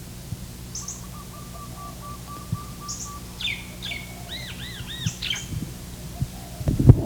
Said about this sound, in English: There's also barred doves.